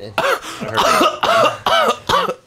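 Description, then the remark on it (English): A rapid series of harsh, throaty coughs, roughly five or six in quick succession, loud with no talking around them. “I'm coughing.”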